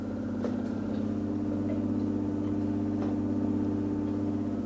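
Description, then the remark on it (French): Pump motors of a heart-lung machine, running during a heart operation, produce a steady, low mechanical drone, layered humming tones holding constant throughout, with a few faint ticks on top and no voices. “Vous entendez peut-être le bruit des moteurs qui actionnent ces pompes.”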